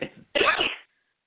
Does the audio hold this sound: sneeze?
yes